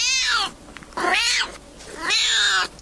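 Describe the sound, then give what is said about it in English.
A small, smoky grey cat meows three times, each call drawn-out and wavering, with short silent pauses between them and no voices around. “Tommy meows, hoping Adam will get that it's a yes.”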